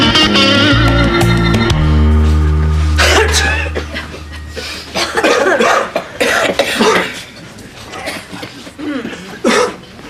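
A steady chime-like tone fades out, followed by a series of loud, harsh coughs in irregular bursts, with no one speaking.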